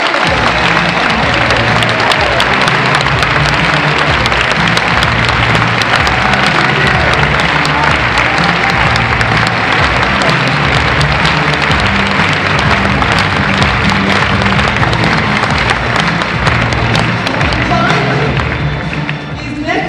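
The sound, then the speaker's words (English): A large audience claps loudly and continuously for about twenty seconds for Tier 2 contest winners standing up, a dense, steady wash of hand claps with a low musical drone running underneath and no clear break. “I invite all our Tier 2 winner contestants to please stand up and let's give our Tier 2 winners a big round of applause.”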